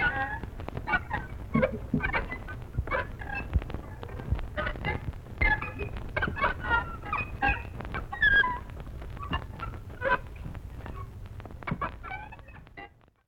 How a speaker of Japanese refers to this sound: じゃあついでにもう一つ人工ウグイスを出しちゃいましょう。京都は千代院廊下のウグイス張りとございます。